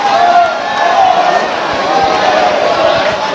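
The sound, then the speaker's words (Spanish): A bullfight crowd at La Merced bullring roars and cheers in a steady, loud wash of many voices, with shouts rising and falling throughout and no clear pauses. “Ahí tiene el sonido. La afición. Sonido más que en directo, ¿eh?”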